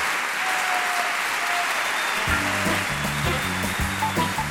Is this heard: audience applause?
yes